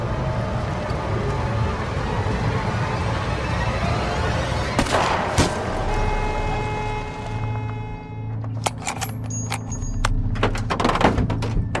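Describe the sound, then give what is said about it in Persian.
Over a steady low engine rumble, a couple of sharp gunshots crack midway, followed by a rapid, irregular burst of shots toward the end, loud. “شلیک نمی کنه، لعنتی شلیک کن. وقتی آماده باشه شلیک میکنه.”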